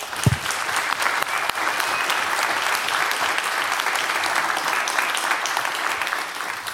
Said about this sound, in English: Thank you very much for hosting us every year. Big applause.